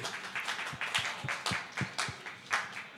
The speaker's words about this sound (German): Okay, der Prinz aus Prince of Persia. wer ist dafür? Applaus dafür.